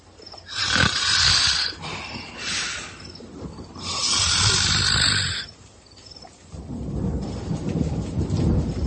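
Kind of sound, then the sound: human body sound, snoring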